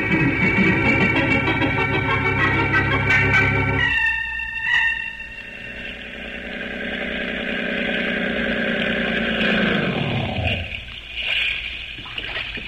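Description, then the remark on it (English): A motorboat engine drones loudly and steadily over churning water during a boat ride, shifts its tone partway through, then winds down near the end, followed by a short splash. No one speaks. “I think we'll take a little boat ride.”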